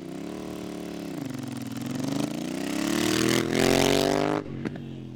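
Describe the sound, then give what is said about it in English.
A motorcycle engine revs at a ribbon cutting for a new motorcycle training range in Sioux Falls, South Dakota, its pitch climbing steadily as the throttle opens, then cutting back abruptly near the end. No one speaks. “In Larry Roden's tenure as governor, he's done ribbon cuttings via shooting a rifle, chopping a ribbon with an axe, and now he can add a motorcycle”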